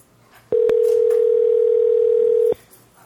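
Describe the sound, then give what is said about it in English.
A steady telephone dial tone hums for about two seconds as a dropped caller is dialed back, loud and unbroken, starting and stopping abruptly with faint background noise around it. “Lost her again. I will dial her back, see if we can get her.”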